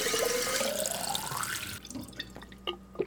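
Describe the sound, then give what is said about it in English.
Water pours from a tap into a glass, its pitch rising steadily as the glass fills, then the flow cuts off, leaving a few scattered drips. “But first, can I please have a glass of water?”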